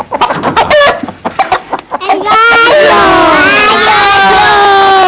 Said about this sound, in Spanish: No es exactamente el gallo. ¡La gallina! La gallina, eso sí.